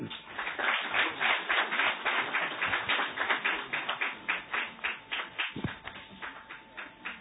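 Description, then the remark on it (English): A crowd applauds to invite Ambassador Kabra Liami to present his lecture, a steady, dense patter of many hands clapping together, holding strong for several seconds before gradually thinning out and fading toward the end. No voices are heard. “Let me at this juncture, and with a round of applause, invite Ambassador Kabra Liami here to present his lecture.”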